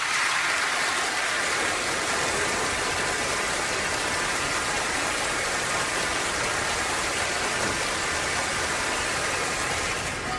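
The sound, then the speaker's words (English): An audience gives polite applause on cue after a countdown, a dense, even patter of many hands clapping at a constant moderate level for about ten seconds, with no cheering or voices, ending abruptly. “So, polite applause in three, two, one.”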